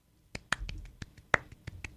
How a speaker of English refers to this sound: Got a single clap. That's what it sounds like at our shows.